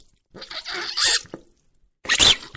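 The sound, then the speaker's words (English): A rubber ear syringe is squeezed hard twice, each time spitting out water in a loud, hissing, sputtering burst that ends in a shrill watery squeal, with a short silence between them. “So eventually what I did was I was recording a rubber ear syringe and found that if I squeezed the water out really fast, it gave a real sort of yell at the end of it while spitting out the water.”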